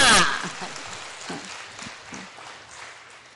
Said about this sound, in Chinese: 各位弟兄姐妹平安，让我们用最热烈的掌声欢迎三一真神在我们当中，哈利路亚。